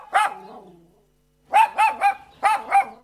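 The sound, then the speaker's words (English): A small dog belonging to Jonathan Savage yaps sharply: one bark, a short pause, then a quick run of four high-pitched yips, with no voices. “Jonathan Savage and his yappy little friend.”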